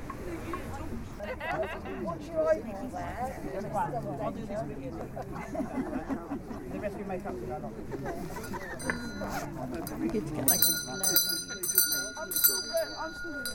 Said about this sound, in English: Welcome, ladies and gentlemen. The bell has spoken and it's gathered us again this time of year.